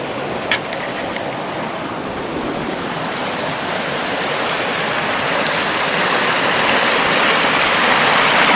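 flowing creek water

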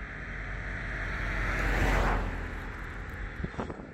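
car driving past

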